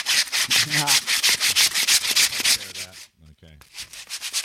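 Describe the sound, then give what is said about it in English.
Rapid back-and-forth sanding or rubbing on wood while adjustments are made on a printer in a studio, a steady run of loud, raspy strokes that briefly break off with a short pause before the scraping starts up again. “Let me just do a few more little adjustments on my printer here in the studio.”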